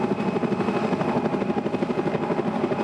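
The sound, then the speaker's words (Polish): A Border Guard (Straż Graniczna) helicopter hovers over water during a rescue exercise to lift a casualty from the water, its rotor producing a loud, steady rhythmic chop over a broad engine roar and whine, with no voices audible. “Przed momentem podejmowanie poszkodowanego z wody przez ratowników WOPR-u, a w tej chwili użycie śmigłowca do tego, żeby podjąć poszkodowanego z wody.”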